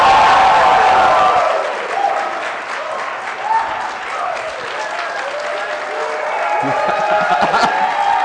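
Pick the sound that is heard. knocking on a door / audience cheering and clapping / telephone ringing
audience cheering and clapping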